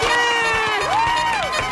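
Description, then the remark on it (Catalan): A loud, continuous burst of cheering from the new studio audience of the show APM, pupils from the school L'Estonac, applauding for Núria Cases, with high-pitched whoops and sustained shouting voices rising and falling in pitch over a dense wash of clapping. “Vinga, va, un aplaudiment d'aquest nou públic per la Núria Cases.”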